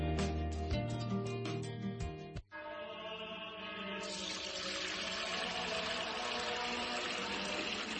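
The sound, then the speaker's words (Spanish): A priest pours Fuente Umbría spring water into a container in a steady, fairly loud rush that grows fuller partway through, preceded by a couple of seconds of tonal, rhythmic gurgling. “Padre Gilberto, ¿qué hace? Hermano Pedro, es que no nos quedaba agua bendita.”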